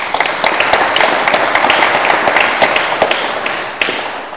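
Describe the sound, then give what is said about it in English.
A room full of people applauds steadily, a dense patter of many hands clapping at once for several seconds, fairly loud, with no talking over it, clapping to thank everybody who helped with a self-study. “So let's clap for that.”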